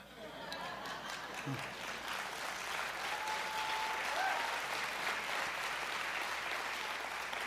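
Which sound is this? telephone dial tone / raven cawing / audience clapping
audience clapping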